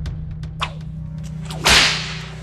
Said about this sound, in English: The guards lashed their whips at him, wrapping them around each of his arms